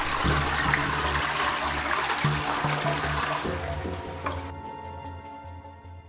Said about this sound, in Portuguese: os dedos pálidos e finos de Alberto terminavam de descer pelo esgoto ao som da descarga